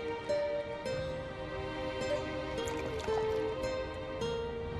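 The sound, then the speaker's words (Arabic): Water is sprinkled onto a man, splashing and trickling steadily for a few seconds, moderately loud, over a faint sustained tonal background with no one speaking. “رش عليه ما يا أنسة.”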